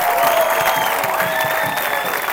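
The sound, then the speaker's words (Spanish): Sustained applause from an audience clapping for the Lord, a dense steady wash of clapping that stays loud throughout with no pauses, and a few faint tonal whistles or cheers layered over it. “Dale fuerte ese aplauso explorador al Señor.”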